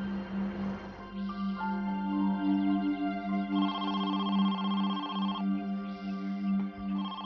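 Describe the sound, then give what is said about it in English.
A phone ringtone chirps in short repeating bursts of bright electronic tones over a steady low hum, with no one speaking, as Carolyn receives a phone call five days after Regina's disappearance. “Five days after Regina's disappearance, Carolyn received a phone call.”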